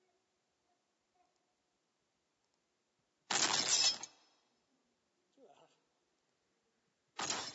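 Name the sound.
glass breaking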